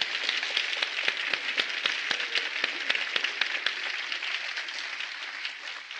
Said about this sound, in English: Well, let's don't patty cake. Let's clap.